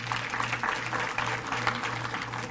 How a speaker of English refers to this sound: Give them a big hand clap as they come again.